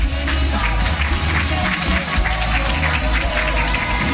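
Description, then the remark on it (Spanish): Sustained applause from a large audience welcoming an award-winning performer to a press conference, a dense, steady wash of many hands clapping at once, loud, with faint crowd murmur mixed in throughout. “Un fuerte aplauso, por favor, para Esteban Duch.”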